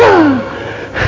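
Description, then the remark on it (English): A voice imitates a cigarette smoker's wheezing breath: a strained, whistling gasp that slides downward in pitch, followed by a short raspy breath, fairly loud with no talking. “I used to wheeze.”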